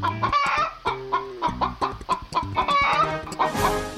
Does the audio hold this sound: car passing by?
no